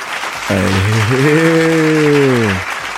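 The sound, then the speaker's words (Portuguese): Steady crowd applause fills the whole stretch, with a loud sustained tonal hum or cheer-like drone riding over it for about two seconds in the middle. “Aplausos, aplausos, aplausos.”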